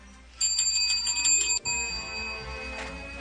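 A bell rings in a rapid, trilling burst for about a second, stops abruptly, and its bright metallic tones linger and fade afterward. Fairly loud and close, with no talking.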